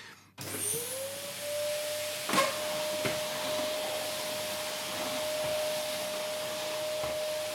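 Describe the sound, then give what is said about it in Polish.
A vacuum cleaner with a tape-wrapped hose switches on, its motor whine climbing quickly to a steady mid-pitched tone over a loud, constant rushing hiss, with a couple of brief knocks along the way and no talking. “W domu to ja zawsze odkurzam.”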